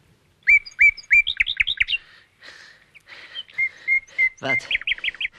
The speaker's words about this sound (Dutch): Wat is dat voor verrukkelijke muziek? Is dat niet de nachtegaal? Ja, de echte nachtegaal.